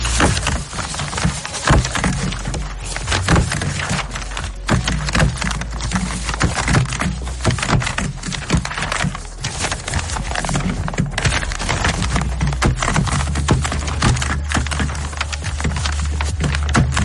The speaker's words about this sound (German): Ich habe vorhin so ein paar Blatt Papier schön zugetackert. Und die Frage ist, wie viele Klammern habe ich da verbraten? Achtung, ihr hört jetzt den kleinen Ausschnitt.